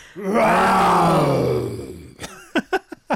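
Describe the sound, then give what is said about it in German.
On Mikado, the children's radio show on NDR Info, a person imitates how a dinosaur might have sounded: a long, loud, growling roar, its pitch sliding slowly downward over about two seconds, followed by a few short, sharp breathy huffs. “deshalb haben wir gerade mal hier so ein bisschen geübt, wie Dinosaurier vielleicht geklungen haben mögen”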